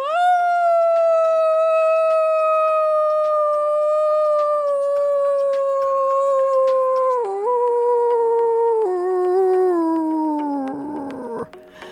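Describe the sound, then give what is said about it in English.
A person howls like a dog in one long, loud, sustained note that slowly sinks in pitch over about twelve seconds, wavering and breaking up at the very end. “And if you're in a space to do so, let's point that snoot up, breathe in, and let you out a good old howl.”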